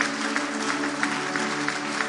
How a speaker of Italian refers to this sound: Vogliamo fare un applauso al Signore. Amen.